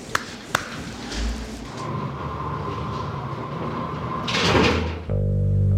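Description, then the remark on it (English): The heavy metal door of prison Cell 11, on a Closed Cell Restriction tier, rumbles as it slides, swells into a loud grinding rush, then slams shut with a clunk, leaving a steady low mechanical hum. A couple of sharp clicks come first. “Cell 11, go ahead in, please. Go ahead and close.”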